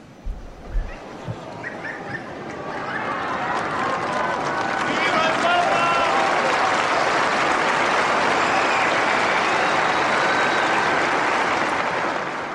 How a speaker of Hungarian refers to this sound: Kedves hallgatóink, ezzel a köszönéssel, köszöntéssel és tapssal ér véget a mai szerda délelőtti általános kihallgatás.